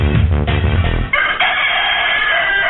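A rooster crows loudly, one long drawn-out cock-a-doodle-doo with a strained, rising then falling call lasting a couple of seconds, with no talking, at the close of the radio program Mi Gallo.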